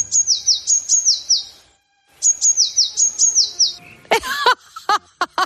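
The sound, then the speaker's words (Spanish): A Eurasian blue tit sings two bursts of rapid, high, repeated trilled notes, clear, then gives a few louder, sharper chirps at the end. No one speaks. “¡Es el herrerillo!”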